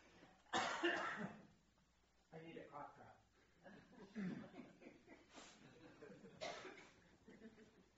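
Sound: coughing and throat clearing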